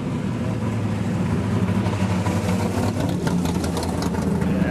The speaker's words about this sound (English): Oh, Maserati. And a new Mustang. And what's that, about a 69 Camaro? 69.